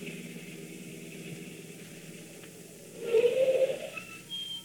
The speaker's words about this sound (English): There's a car coming, all right. See any headlights? No.